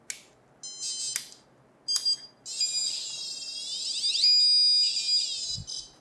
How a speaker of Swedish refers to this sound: Vi har den här rymdfunktionen, den bygger också sitt egna fält runt den antennen. Så störs det så kommer det bara pipa och tjuta i den här. Så nu drar jag igång allting och då låter det så här.